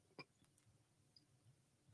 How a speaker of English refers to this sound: What was that? I had the burp. Wasn't coming out.